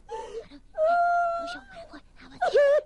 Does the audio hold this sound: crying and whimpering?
yes